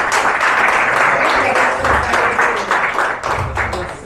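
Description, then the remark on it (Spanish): Loud, sustained applause from a church audience giving a round of applause to the Lord, a dense wash of many hands clapping steadily for the full few seconds, with faint voices mixed in underneath. “¿Cuánto dan un aplauso fuerte al Señor?”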